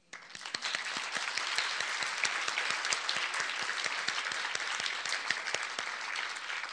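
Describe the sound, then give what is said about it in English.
A crowd breaks into steady applause in praise of Jesus Christ, many hands clapping at once in a dense, even wash of sound that holds at a constant level for several seconds without any voices. “Let's give him an applaud.”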